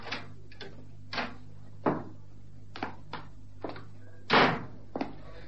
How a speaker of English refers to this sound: They wait there in the darkened room until 11:30 p.m., when a key is turned in the latch and the door swings open.